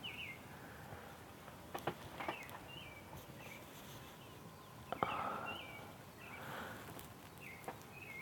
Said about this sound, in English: I'm sitting out here on the porch. It's like 4:45. The birds are up. I don't know if you can hear them.